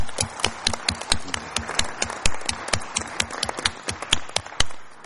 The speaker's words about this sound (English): So I'd like to acknowledge the three of them and give them a round of applause and thank you for their help.